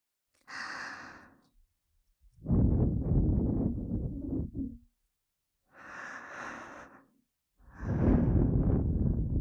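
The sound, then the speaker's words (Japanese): Slow, breathy exhales, each a long, loud rush of air following a softer, hissy inhale, repeated twice in an unhurried rhythm with no talking. “このまま、吐息もあなたにプレゼントします。”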